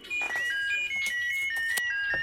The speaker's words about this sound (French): Et puis soudain, le téléphone a sonné.